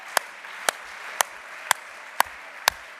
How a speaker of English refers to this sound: Yeah, let's clap our hands for preachers today, shall we? Hallelujah.